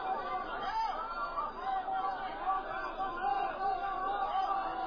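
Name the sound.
angry crowd booing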